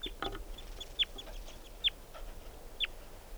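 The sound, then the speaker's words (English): A juvenile wild bird, which is with two others, gives three short, high-pitched peeps, each sliding downward, spaced evenly about a second apart over a steady low background hiss, with no one talking. “So recording collected that bird. It's a juvenile.”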